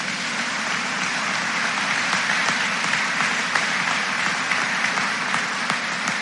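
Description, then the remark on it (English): A crowd applauds steadily throughout, giving a round of applause for two people, many hands clapping in a dense, even roar of claps with no voices rising above it. “Let's give Troy and Callie a huge round of applause.”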